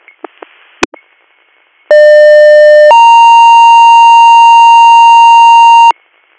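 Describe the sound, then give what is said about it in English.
A loud two-tone emergency dispatch pager alert paging Hop CMS (second page) to 5232 Route 467, Orwell Township, for an unresponsive patient: a steady lower tone holds for about a second, then jumps to a higher steady tone for roughly three seconds, preceded by a few brief radio clicks and static. “Hop CMS, second page, Orwell Township, 5232, Route 467 for an unresponsive.”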